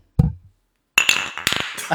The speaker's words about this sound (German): Wollen wir darauf nochmal anstoßen? Ja, machen wir. Aber erst mit Mikrofon und dann mit dem Glas. Okay, jetzt drehen wir das um.